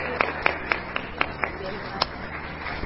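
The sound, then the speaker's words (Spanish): A few scattered claps from a small audience at a panel event, sharp and fairly quiet, about seven or eight in an uneven rhythm over a low background murmur, thinning out toward the end. “Y pues le damos un aplauso y éxito en su próximo evento.”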